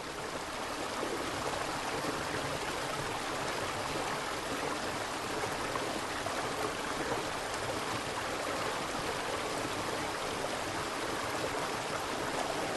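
flowing stream water

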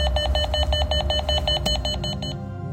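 doorbell ringing

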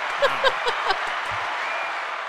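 applause sound effect button

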